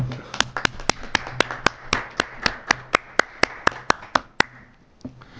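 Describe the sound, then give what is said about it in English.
A small group applauds to approve an election of a chair and vice chair by acclamation, with a steady run of crisp, evenly spaced claps for about four seconds, then the clapping stops, leaving a quiet hum with faint background murmur. “So I think we can approve it by acclamation.”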